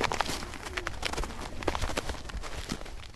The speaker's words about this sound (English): Wow, sounds exciting. I love the crunching of the snow. You can see what kind of weather we've had in the New York City area.